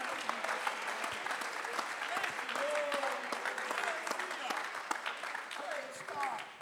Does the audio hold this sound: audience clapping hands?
yes